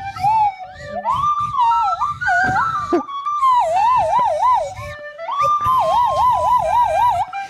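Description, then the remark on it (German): A nose flute whistles loud, breathy tones that slide up and down and warble rapidly, imitating a wailing siren, with a few short pauses between phrases and no talking. “jetzt nochmal ganz kurz die Nasenflöte hören. Ganz kurz, einfach mal einen Ton.”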